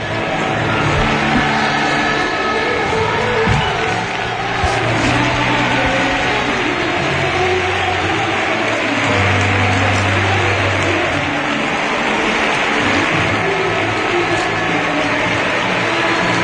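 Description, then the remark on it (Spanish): A stadium crowd at the Colombino gives a long, loud ovation at the end of the match after Recre's 2-0 victory: a dense, unbroken roar of cheering and clapping that holds steady throughout, with a low droning tone running beneath it and no speech. “Ovación del Colombino.”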